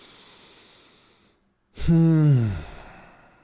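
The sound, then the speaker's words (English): A long, airy breath drawn in, a brief held pause, then a loud exhale that turns into a voiced, downward-sliding sigh fading out. Alone, with no talking. “Let's take a breath together.”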